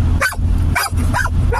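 Several quick, sharp dog barks in a row, loud, with short gaps between them over a steady low hum in the background.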